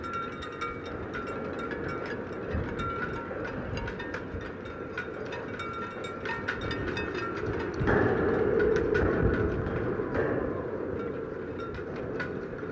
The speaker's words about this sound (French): et j'étais dans un campus universitaire et à travers un grillage, je découvre un petit port abandonné et le vent qui faisait siffler les voiles des bateaux. C'était magnifique, j'ai fait une prise de 45 minutes.